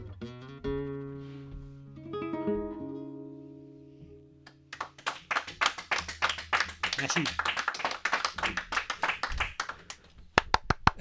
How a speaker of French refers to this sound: Mais c'est moi qui applaudis maintenant, derrière.